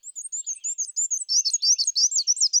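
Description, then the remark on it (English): A male black-and-white warbler sings a high, thin, squeaky phrase of rapidly repeated two-note chips, growing louder and busier partway through, with no other sounds. “But they breed in North America's deciduous forests, where males sing a repetitive, high-pitched, wheezy, wheezy, wheezy song”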